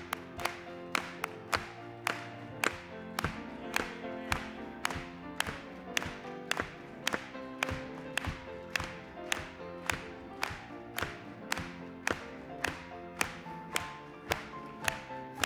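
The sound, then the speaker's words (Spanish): An audience claps in a steady, even rhythm, about two claps per second, loud and sharp over sustained music with held chords. No one speaks. “Vamos a aplaudirle.”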